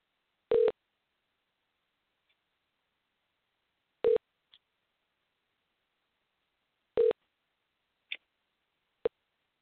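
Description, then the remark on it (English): An odd telephone dial tone heard while calling a corporate office: three short, buzzy beeps at a steady mid pitch, spaced about three seconds apart, with a few faint clicks in between and silence otherwise. “That's a weird dial tone, I'll tell you that.”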